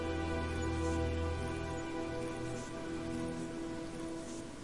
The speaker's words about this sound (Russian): Но она помнила и, тихо отойдя в сторону, стала смотреть в окно, по которому сбегали струи дождя.